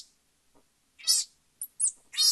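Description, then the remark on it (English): Raspy, noisy vocalizations from a very young infant marmoset, recorded while briefly separated from its parents in an experiment: about four short, rough calls in quick, uneven succession, hissy rather than tonal, with no talking. “The very young infants made low, raspy sounds, not your typical marmoset chatter.”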